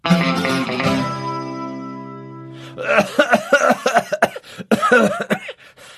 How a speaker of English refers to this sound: that cough is still sounding bad. Have you tried the cough medicine I use?